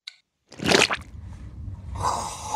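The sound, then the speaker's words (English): A wet squelching sound, like a foot pressing into mud: a sudden sloppy squish, followed by a continuous moist, sticky churning that swells again near the end. No one speaks. “It is alike the sound of stepping in the mud.”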